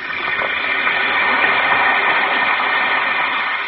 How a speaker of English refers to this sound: Listen to It Fizz.